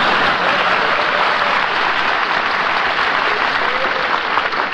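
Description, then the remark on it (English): A steady wash of audience applause, many hands clapping densely and evenly at a loud, constant level for a few seconds with no break. “Will you wait for him to applaud for his real mother, please?”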